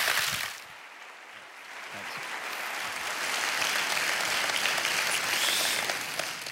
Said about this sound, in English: Well, thanks for clapping. Nobody claps at home. That's so much better. I feel so welcome.